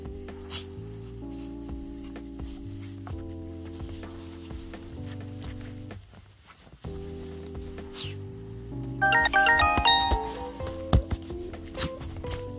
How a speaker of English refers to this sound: Put his jacket on, his puffy winter jacket on. If you might have heard some snorting sounds, that's what. Oh, wait, listen to him.